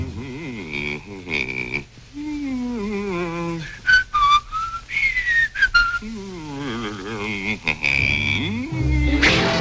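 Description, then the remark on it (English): A cartoon bull stands there humming an idle, wavering tune to himself, sliding up and down in pitch with a few higher whistle-like notes, ending in a short noisy burst. “So the bull just stands there humming to himself.”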